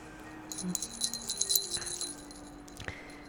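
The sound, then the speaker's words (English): Small bells attached to a new pair of nipple clamps jingle in a quick, irregular flurry of bright, high tinkling for about a second and a half, then fade to near silence with one faint final chime. No one speaks. “I mean, I guess, you know, it would be a cat bell if it was attached to a cat, but these bells in particular are attached to my very first pair of nipple clamps.”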